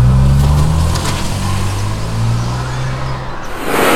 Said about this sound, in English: Jason leaps into the car, hard starting up the vehicle and quickly spinning it out of the space and away from the dust cloud at best speed